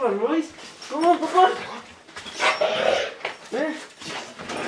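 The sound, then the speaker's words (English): A pit bull named Royce whimpers, yelps and barks excitedly at a family member's return home, in quick, overlapping bursts, fairly loud, with high pitched whines rising and falling throughout. “The slobbery pit bull, Royce, goes nuts with the kind of joy only a dog can express.”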